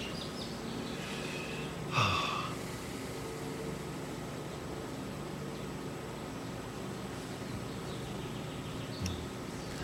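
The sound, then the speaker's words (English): A sharp, nasal breath intake cuts through a steady hiss of background noise, followed several seconds later by a second, fainter breath, as a person breathes slowly and consciously. There is no talking. “So breathing, consciously, awareness, attitude.”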